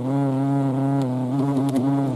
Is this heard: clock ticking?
no